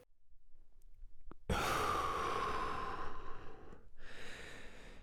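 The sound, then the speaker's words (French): A long, deep breath drawn in, airy and loud for about two seconds, followed after a brief pause by a softer, rushing breath out. No one speaks. “Prendre une grande bouffée.”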